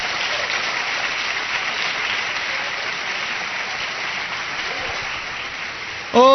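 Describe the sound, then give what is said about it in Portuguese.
A church audience applauds a sermon message at the church's headquarters on Avenida Celso Garcia in Tatuapé, in a sustained, dense wash of clapping for about six seconds, then a voice cuts in loudly at the end. “Você quer aplaudir esta palavra bem forte?”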